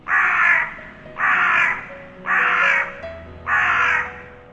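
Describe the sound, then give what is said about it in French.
A crow caws four times in a steady, evenly spaced rhythm, each harsh call loud, with no voices around it. “Le second un corbeau.”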